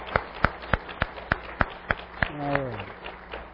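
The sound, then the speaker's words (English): Applause heard as sharp, evenly spaced claps about three per second, loud and crisp, with a short wordless vocal cry sliding downward partway through. The applause is given at a morning service for the mothers and grandmothers standing. “So if you are a mom, a grandmom, however many, however few, if you would all stand, and let's have a round of applause for these ladies.”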